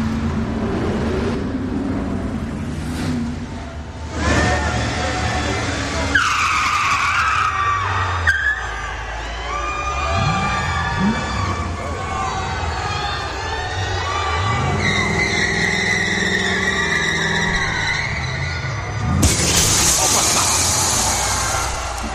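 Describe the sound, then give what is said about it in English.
A Ford Mustang skids with long squealing tire tones and a revving engine, then crashes through the WrestleMania glass with a sharp burst, while a loud crowd roars and shouts throughout. “Ford Mustang right through the WrestleMania glass.”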